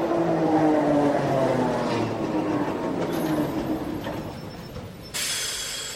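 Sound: tram riding on rails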